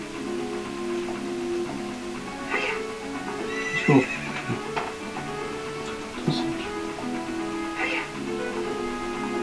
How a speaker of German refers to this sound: Unser Pferd ist schon ein bisschen vorgelaufen.